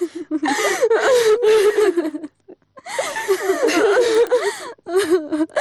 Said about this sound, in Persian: بس از دگه گریه نکو